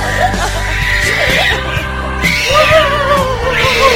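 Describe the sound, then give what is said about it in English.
A man's voice lets out loud, strained squeals and yelps imitating a pig, rising and falling in pitch, with steady background noise behind the continuous cries. “Squeal like a pig.”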